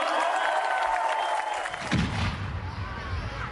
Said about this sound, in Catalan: Un aplaudiment per Nostre Senyor!